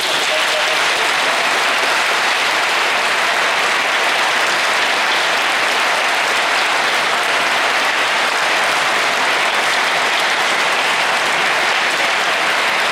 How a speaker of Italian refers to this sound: E per gli uni e per gli altri un bel applauso